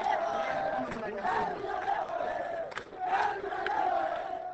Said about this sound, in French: Cette foule qui scandait des slogans contre les autorités civiles et militaires du Nord Kivu